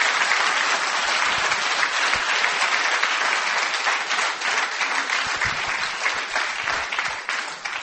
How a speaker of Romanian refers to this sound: Haideți să aplaudăm pe cei care se obosesc săptămână de săptămână.